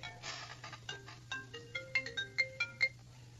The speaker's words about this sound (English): Sorry about that. I forgot to turn my cell phone off. That's probably Joe Biden or someone calling.